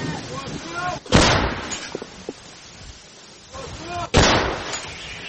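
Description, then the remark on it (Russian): Two loud artillery cannon shots, fired by soldiers in a war, boom about three seconds apart, each a sharp blast with a rumbling tail, while people talk in the background between the firings. “После стрельбы бойцы, как обычно, укрываются на случай ответного огня.”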